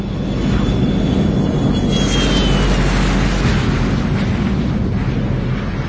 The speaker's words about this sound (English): The Gulfstream 4 is typically a business jet, but this one is reconfigured.